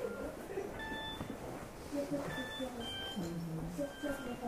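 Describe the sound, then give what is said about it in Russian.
A mobile phone ringtone plays in a room as a series of short, thin electronic beeps, fairly faint, over a steady background of murmuring voices. “Так, друзья, чьи телефоны?”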